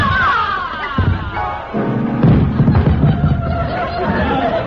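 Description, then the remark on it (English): A heavy thud and crash as a 220-pound woman falls into a piano and knocks herself out, then a jumble of piano notes struck all at once and ringing out as keys are knocked off, with a crowd murmuring and chattering throughout. “Mama knocked herself out. She fell right into the piano.”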